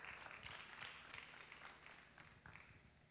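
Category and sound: crowd, audience clapping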